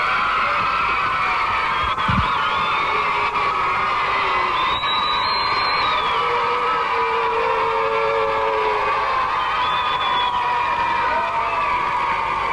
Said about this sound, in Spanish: El aplauso bien fuerte para el amigo. Aplauso, grito, bochinche, escándalo para el artista número 2.